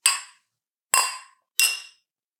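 Three bright clinks of beer glasses ring out, each with a short shimmering decay, spaced unevenly about a second apart, with silence in between and no talking.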